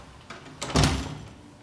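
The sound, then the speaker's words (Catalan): A door swings open with a low thump and a brief scraping rush as a mother walks out dragging a suitcase, the noise swelling around the middle and then trailing off into a faint rumble, with no voices. “En Merlí obre la porta a la mare, que surt arrossegant la maleta.”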